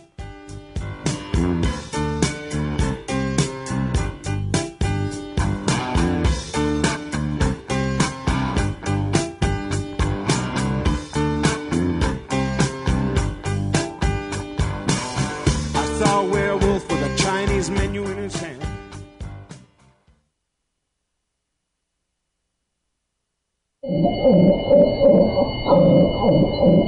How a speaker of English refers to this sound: That's the sound of a dog whose vocal cords were cut just to stifle her voice. It's called devocalization, and it's done to cats as well. Devocalized animals rasp and wheeze, cough and gag the rest of their lives. Some are rendered mute.